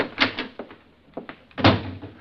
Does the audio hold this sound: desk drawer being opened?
yes